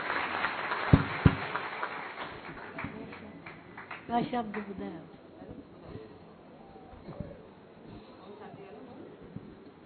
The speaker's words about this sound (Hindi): परम आदरणीय, परम श्रद्धे, महात्यागी आदरणीय रतन मोहिनी दादी जी, जोरदार ताली बजा के दादी का अभिनंदन स्वागत।